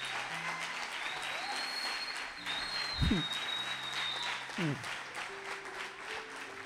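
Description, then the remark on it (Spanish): An audience applauds steadily throughout, a dense, sustained wash of clapping from many hands, with a few scattered shouts and voices rising through it. “Son ellos, mira, seguí aplaudiendo, pero son ellos.”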